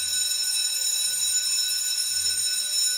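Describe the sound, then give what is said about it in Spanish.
A school bell rings loudly and without pause, a harsh, steady electric clang signalling the start of classes, with no voices over it. “Es el timbre, Rodrigo, el timbre que nos avisa.”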